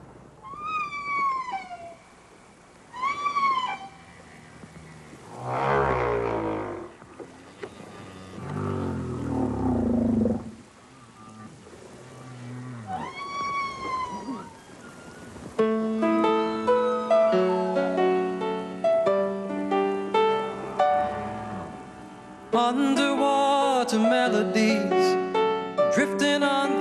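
Song of male humpback whales in the mating season: eerie rising and falling moans and whoops, some long and low, others high and swooping, echoing one after another before melodic music takes over the second half.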